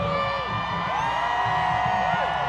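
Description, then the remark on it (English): A large crowd cheers steadily and loudly as the president takes the stage, a dense roar of many voices with rising and falling whoops and shouts cutting through the din. “As the president took the stage, the crowd came alive.”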